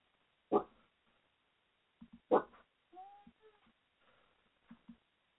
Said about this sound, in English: Hold on, my dog's going nuts. Holy shit. My bad.